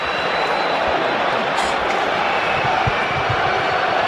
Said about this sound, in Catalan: avui evidentment li tenen ganes a Carvajal a Sant Mamés. Els crits ja els podeu escoltar.